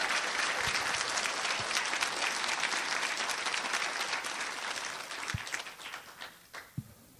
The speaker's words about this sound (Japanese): 本日表彰を受けられました10人の皆様です。どうぞ今一度大きな拍手をお送りくださいませ。